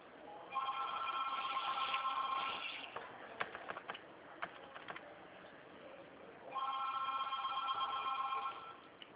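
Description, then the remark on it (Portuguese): A telephone rings in two long bursts of bright, warbling electronic tone, with a pause of clicks and clatter between them and no talking. “Essa rapidez sua, o telefone vai desligar.”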